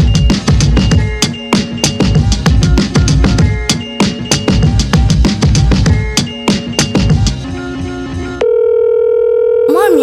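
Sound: phone call ringing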